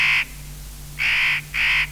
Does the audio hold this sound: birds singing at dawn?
yes